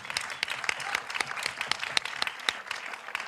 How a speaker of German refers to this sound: Vielen Dank, Applaus